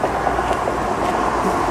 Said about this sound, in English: It's a train going past on the railway bridge. So this was built, I'd say roughly 2010, 2011.